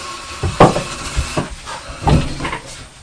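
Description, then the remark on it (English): A child bangs into a cupboard several times in an irregular rhythm, each knock followed by a brief rattling clatter of the glasses shaking inside. The bangs are moderately loud, with no talking. “You're banging into the cupboard because you like the sound of the glasses.”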